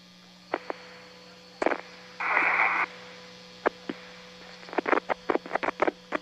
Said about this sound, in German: Nichts, nur noch Rauschen.